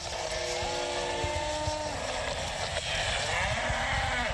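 Several hundred grazing cattle of a Mbororo rancher low with long, drawn-out moos over a steady outdoor hiss in the village of Balamba near Bafia, central Cameroon, the calls overlapping in the first half and fading into softer lowing afterward.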